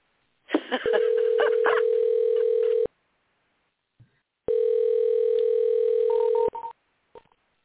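A phone call placed to an expected guest during a show rings out with two long, steady ringback tones, each lasting about two seconds and separated by a short pause, heard through a thin, band-limited telephone connection.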